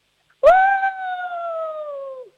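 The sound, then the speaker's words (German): A person imitates a wolf howl with one sustained, tonal voice that starts abruptly, holds a steady pitch with clear harmonics, and slowly sinks before fading out after about two seconds. “Dann hätte ich jetzt gerne, dass du mal heulst wie ein Wolf.”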